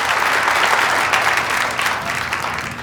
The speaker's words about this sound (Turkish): alkışlarınızla ödülünü almak üzere sahneye davet ediyor.